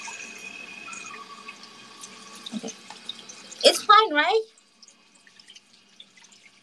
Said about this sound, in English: Okay. I'm gonna mute for a while because it's gonna, the water is, I don't know. Can you hear the water?